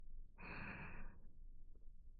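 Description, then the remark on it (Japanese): A single soft, breathy exhale very close to the microphone, lasting under a second, followed by quiet room stillness with faint low rustling. “息遣いが届いちゃうこの距離。”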